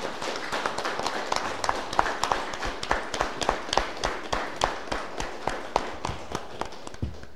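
An audience applauds in a steady, even rhythm, sharp claps landing at a regular beat over a dense, continuous wash of background noise, with no one speaking.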